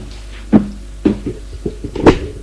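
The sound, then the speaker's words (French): A door on a third floor is opened, with a series of sharp wooden clunks and latch clicks spaced unevenly over a couple of seconds, the last one loudest. No one speaks. “Elle ouvre une porte”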